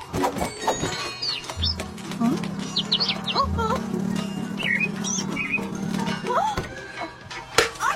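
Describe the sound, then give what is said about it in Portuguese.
A busy flurry of many birds' wings flapping, with scattered rapid taps and clatters like falling hail, mixed with high chirps and tweets over a low steady hum. “Não é granizo, são os pássaros.”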